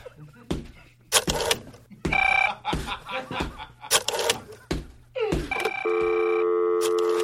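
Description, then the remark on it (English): A telephone ringing sound effect plays in loud, choppy electronic bursts broken by sharp clicks, then settles into a steady, sustained electronic tone that runs to the end. “We do not need a phone sound effect.”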